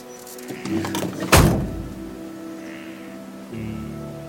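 Shuffling movement as someone climbs into a car, then a single solid door slam, with a steady low engine hum continuing underneath and no talking.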